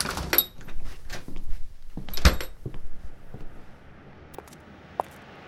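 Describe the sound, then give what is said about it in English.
A door rattles and clunks open, with a sharp latch click midway, as someone rushes out the front doors of a tattoo parlor, then the noise settles into quiet outdoor ambience and a single soft knock near the end. “So I finished as fast as I could and practically sprinted out the front doors.”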